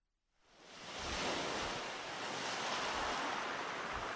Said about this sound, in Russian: Мне кажется, наши люди так сильно хотят на море, что, понимая, что это невозможно прямо сейчас, они просто закрывают глаза, включают, как это называется, морской шум. И представляют себя где-нибудь на Гуа с коктейльчиком.